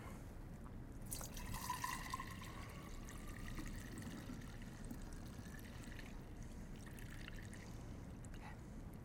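Kombucha is poured steadily through a strainer into a jar for several seconds, a continuous splashing trickle with rising, ringing tones as the container fills, moderately loud with no talking.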